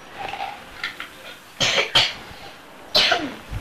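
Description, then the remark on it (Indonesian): Several harsh coughs burst out in separate fits, mixed with a raspy throat clearing, with short pauses between them and no talking. “Nanti dulu makan obat batuk, permen obat batuk”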